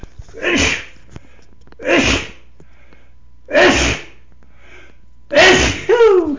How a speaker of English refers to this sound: Excuse me, folks. I think that's the first time I've sneezed on a broadcast, and you were there.